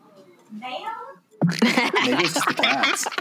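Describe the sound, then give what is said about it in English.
A short, faint cat meow with a rising and falling pitch, followed by a burst of loud vocal noise that drowns out everything else. “I have to go yell at my cat.”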